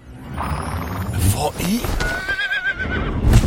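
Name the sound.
horse neighing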